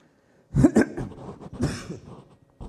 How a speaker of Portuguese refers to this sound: Peço desculpas, ainda estou com uma certa tosse. Espero que isso não atrapalhe aí a audição dos irmãos, né?